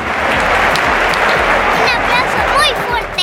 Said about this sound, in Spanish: Exacto, un aplauso muy fuerte, así, eso.